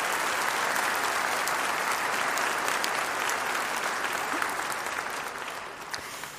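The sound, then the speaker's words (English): An audience breaks into sustained applause for Jesus, a dense, steady wash of many hands clapping that holds loud for several seconds before easing slightly toward the end. “I think we ought to clap there, don't you think, for Jesus?”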